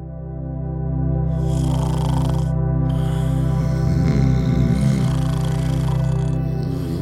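A loud snore from a person: a deep, buzzing rumble with raspy, breathy inhales layered on top, sustained for several seconds with no one speaking.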